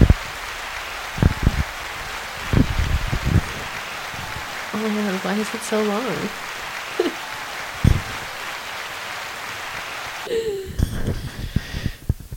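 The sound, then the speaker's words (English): An applause sound effect, a steady wash of applause-like crackle, runs the whole time as a guest is introduced on a show, dense and fairly even, while people talk and laugh over it. “The applause again.”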